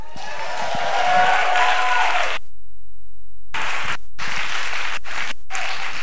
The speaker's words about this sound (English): You just have to stand up and we'll all clap for you and wave.